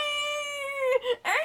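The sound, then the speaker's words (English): A baby boy, a little brother, cries in a long, steady, high-pitched wail with a buzzy, horn-like tone, then breaks into two short, wavering sobs. No one talks over it. “Every time he cries, he sounds like a car horn.”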